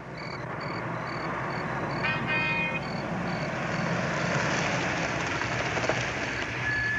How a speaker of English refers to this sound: You drop down quickly as a car pulls up near the Benson's house.